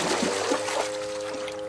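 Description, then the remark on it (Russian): Floodwater pours and trickles steadily in the cartoon Luntik, after a night downpour made a pond overflow and flood a house; a continuous splashy rush with a faint, steady hum beneath it and no one speaking. “Потоп. Вода? Вчера ее здесь не было.”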